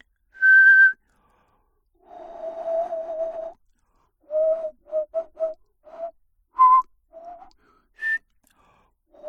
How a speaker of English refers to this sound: I whistled and it made me laugh. I went. That's whistling with your soft palate, or your hard palate, excuse me, being high. No, soft palate. I was wrong. Traditional whistling.